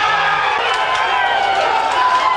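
A large indoor crowd at the election count for the Dublin North constituency roars and cheers steadily as the returning officer announces the elected candidates, a dense wash of many voices at a constant loud level with no single speaker standing out.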